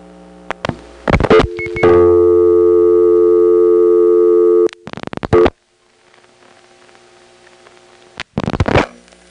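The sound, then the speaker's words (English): Mechanical clattering and clicks from a step-by-step telephone exchange in Marietta, then one steady buzzy regular ringing tone lasting about three seconds, followed by more switching noise, a quiet gap and a final burst. No talking. “Here's a regular ring in the Marietta step.”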